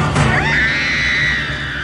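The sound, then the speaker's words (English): A woman in a film clip lets out a single sustained, high-pitched scream that rises sharply and holds for nearly two seconds, loud, with no talking. “She was really bad. Here she is screaming.”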